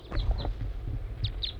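bird, crossbill calling

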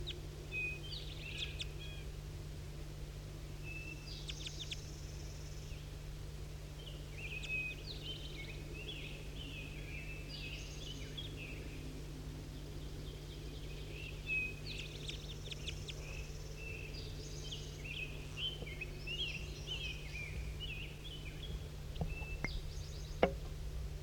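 bird, crossbills calling

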